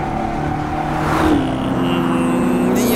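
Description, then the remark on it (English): A synthetic engine sound plays steadily from an electric car, a humming, revving drone that rises in pitch around the middle and then holds, fairly loud, with no talking. “Okay, that doesn't sound like an EV, but fair enough.”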